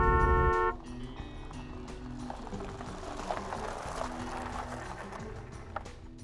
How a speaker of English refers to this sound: 7-month pregnant Kathleen Johns was driving just past Modesto when the car behind her began flashing its lights and honking.